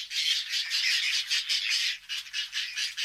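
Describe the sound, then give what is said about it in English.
Harsh, raspy whiskered tern calls squawk almost continuously, a dense buzzy chatter of overlapping grating notes, loud throughout with brief dips, and no voices. “Male whiskered terns gather food for their mates, but things don't always go as planned.”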